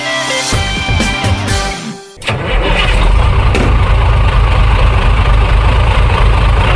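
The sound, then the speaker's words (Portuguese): After a brief tonal burst, a steady, loud roar of cars and tires on a highway takes over, with deep engine rumble and continuous road hiss and no voices. “O cheiro de óleo diesel, a trilha sonora dos pneus e carros na rodovia e o horizonte sempre mudando de forma.”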